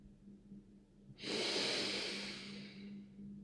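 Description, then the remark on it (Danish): A deep, audible breath taken during a guided breathing exercise sweeps in suddenly, a loud airy rush that slowly tapers off, with a faint steady hum underneath and no talking. “Begynd at tage et par dybe vejrtrækninger og sæt gerne lyd på.”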